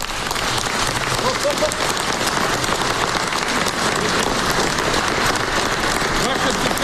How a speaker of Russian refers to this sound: «Ваше Святейшество, эти аплодисменты слышны сейчас по всему миру», — заявил Петр Порошенко.